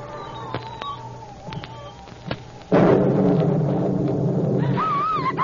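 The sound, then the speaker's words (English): After a few quiet seconds with faint clicks, a sudden loud thunder crack bursts in as lightning strikes a coffin at a burial, rolling into a heavy, sustained rumble that continues to the end. “Listen to the thunder.”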